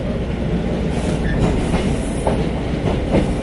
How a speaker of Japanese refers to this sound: お待たせいたしました。地鉄電車ご利用いただきまして誠にありがとうございます。